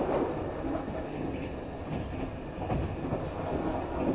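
A sleeper limited express train rumbles steadily along the rails at Shin-Osaka station, Japan, with Kyoto as its terminus: a dense continuous roar with faint rhythmic clatter and no voices.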